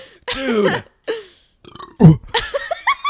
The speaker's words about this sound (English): We got halfway. That's not very impressive. I'm sorry. We're like burping into the microphone. This is like so unattractive.